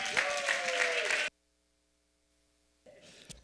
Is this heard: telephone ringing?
no